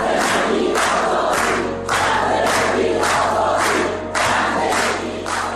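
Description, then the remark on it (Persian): A large crowd of street protesters in Iran shouts the slogan "Woman, Life, Freedom" in unison, loud rhythmic bursts of many voices repeating every second or so over a constant roar. “حمایت از معترضانی که همین یک سال پیش در خیابونای شهرهای مختلف ایران فریاد می‌زدند زن زندگی آزادی.”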